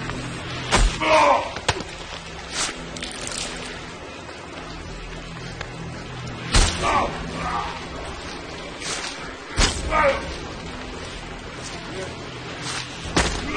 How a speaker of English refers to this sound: Ray slams the guard to the wall.